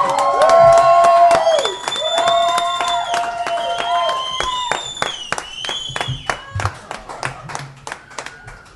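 A crowd cheers and claps while several shrill, sustained whistles ring out, some sliding in pitch, over a steady roar of voices and sharp bursts of applause.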